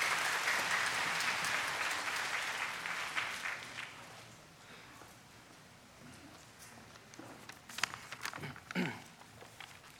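A church audience applauds to invite a church deacon up to share, with dense, crackling clapping that starts loud and gradually thins and fades, with a few scattered sharper claps and a brief rustle near the end; no one speaks.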